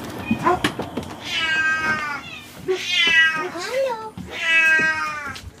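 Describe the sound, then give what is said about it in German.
Cats at a sick bay meow loudly and insistently, three long drawn-out yowls in close succession, with a bit of background clatter between the calls. “Ja, hier wird jetzt endlich auch mal gemaunzt. Hier wird aber schwer gemaunzt.”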